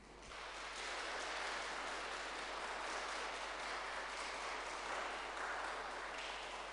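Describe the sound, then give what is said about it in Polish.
A crowd claps steadily for several seconds, thanking a singing group for its performance, a dense, even wash of applause that swells in quickly and holds at a strong level throughout, with no voices on top. “A ja mam nadzieję, że podziękujemy jeszcze zespołowi oklaskami za ich występ.”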